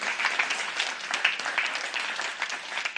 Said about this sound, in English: Go ahead and give the Lord a good hand clap. Come on.